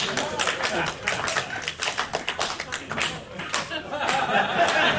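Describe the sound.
Several people clap their hands in a loose, uneven burst of sharp, bright claps that builds slightly toward the end, with faint voices murmuring underneath.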